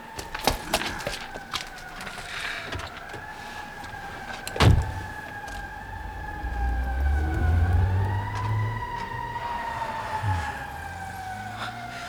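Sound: car driving away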